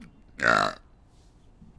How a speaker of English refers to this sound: Sorry about the... The burp? Oh, no, not that.